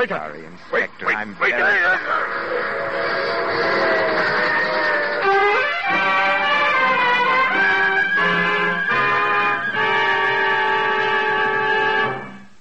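A man's brief strangled, gurgling last cry on a train is swallowed by a long, loud steam locomotive whistle blast, a sustained chord-like shriek lasting about ten seconds with a couple of slight shifts in tone.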